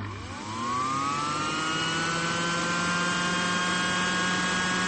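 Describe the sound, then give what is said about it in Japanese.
A commercial mixer whipping an 8-litre batch of meringue switches on, its motor whirring up in pitch over the first second, then holding a steady, loud droning whine with a constant mechanical hum and no talking. “よし、これで業務用ミキサーのスイッチをオンと。”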